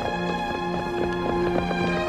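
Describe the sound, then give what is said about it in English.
Horse hooves clip-clop at a steady trotting rhythm as a horse trots up 10th Street past Ford's Theater at night, after 10 o'clock, about four quick strikes per second on the hard street, heard over a sustained, droning musical background with no talking. “With the hour past 10 o'clock on this night 100 years ago, George Atzerodt trotted his horse up 10th Street, past Ford's Theater.”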